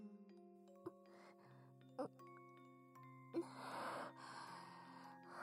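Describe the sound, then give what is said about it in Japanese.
A four-note public announcement chime rings out in steady, sustained tones, each note stepping to a new pitch, with a soft breathy hiss rising beneath the final notes. “ピンポンパンポン。”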